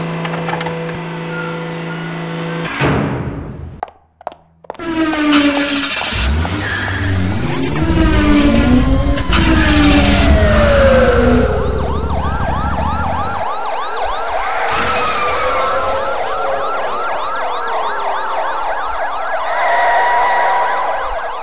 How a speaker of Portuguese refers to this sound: Ufa! Será que em todas as cidades o trânsito é assim?